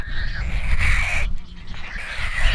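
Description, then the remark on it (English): A newly hatched, bare-skinned pelican chick, alone in its nest on an island while the parent is away, squawks at approaching people to warn them off. The squawks come in harsh, raspy bursts that run almost continuously over a low rumbling background, with a brief dip midway. “The baby's skin is bare, and while her back is to us, she stretches her head around to see us, squawking at us, warning us away.”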